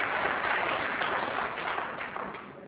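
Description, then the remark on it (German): An audience claps steadily for a few seconds, a dense, even patter of many hands that eases slightly toward the end, with no voices over it. “Also damit Sie nicht gleich schon wieder klatschen, möchte ich eigentlich eher Fragen stellen.”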